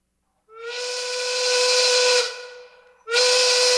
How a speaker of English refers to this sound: All right, folks, that whistle means that it's time for our 420 safety meeting.